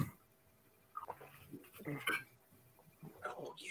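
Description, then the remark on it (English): Liquid glugs out of a bottle of MD 2020 in a few uneven, bubbly gulps, each one a hollow gurgling pop. The sound is fairly quiet, with short pauses between the bursts. “And you hear that? I could hear the nice glug, glug, glug.”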